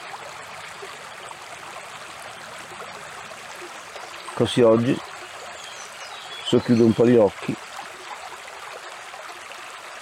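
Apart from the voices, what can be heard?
small mountain stream flowing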